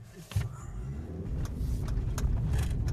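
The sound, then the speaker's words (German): A car drives along steadily, its engine and tyre rumble filling the low end, with a few faint rattles and clicks inside the cabin; a man drives the course of a forest running race to check that the route signs put up the evening before are still there. No one speaks. “Mit dem Pkw fährt er die Strecke ebenfalls noch einmal ab.”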